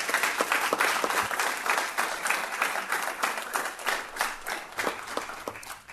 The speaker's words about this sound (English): So I think that deserves a round of applause, don't you?